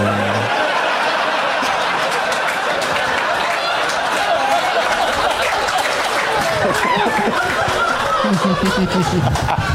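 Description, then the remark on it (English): A round of applause from a crowd, steady and loud with dense overlapping claps throughout, mixed with scattered laughter and chuckling. “And for some reason, with that round of applause, I'll bow out.”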